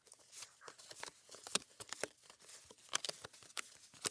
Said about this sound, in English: before we get started and before I introduce my guest, I'm going to shuffle my Karma Bliss affirmation deck. And we'll get centered in a thought for the episode based on what card wants to just serendipitously pop out. So let me do a quick shuffle.